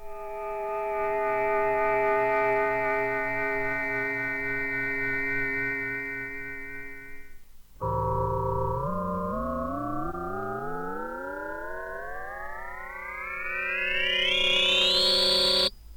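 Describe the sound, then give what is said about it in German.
A steady, loud electronic chord of sustained sine-tone mixtures holds and breaks off. Then a dense swarm of electronic tones glides steadily upward in pitch to a shrill peak before cutting out. A frequency shifter adding a sine-tone glissando makes the swarm rise and also shapes the framing sine-tone mixtures. “Auch was den beiden Sinustongemischen geschieht, die den Schwarm einrahmen, ist dem Frequenzumsetzer zu verdanken.”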